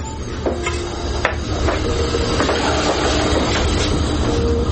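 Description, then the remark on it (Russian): Purified water is poured steadily into a kettle to make tea, a continuous rushing splash with faint metallic clinks and a resonant tone that shifts as it fills. No one speaks. “Ось дивіться, як я воду заливаю.”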